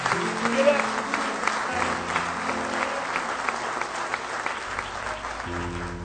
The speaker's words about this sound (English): Somebody say praise the Lord. Give him a good hand clap of praise tonight.